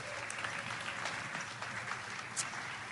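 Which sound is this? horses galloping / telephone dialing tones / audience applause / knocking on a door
audience applause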